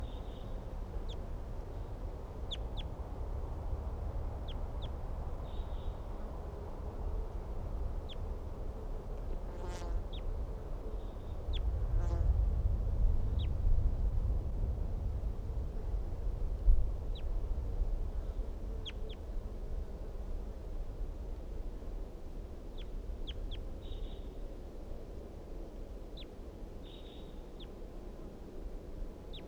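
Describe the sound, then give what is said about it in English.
Soft, high-pitched wild bird calls chirp in short, scattered bursts from a dead pine tree near a net area, over a steady low rumble, with a brief swell of deeper noise midway and no talking. “Wild birds calling very softly from a dead pine tree near the net area.”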